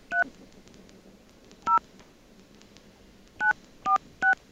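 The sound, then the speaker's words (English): Five short touch-tone beeps from a phone keypad as a number is dialed, spaced unevenly: two separate presses with pauses, then three in quick succession, clear over a faint background hiss. “We're going to call this number. And I guess people can figure out where you are if they can decode this.”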